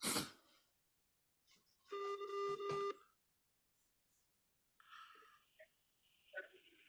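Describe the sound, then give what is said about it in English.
A telephone rings during a prank call to Uri Geller, one steady electronic burst lasting about a second, followed by a brief pause and then more warbling electronic tones, clear, with no talking. “It's ringing.”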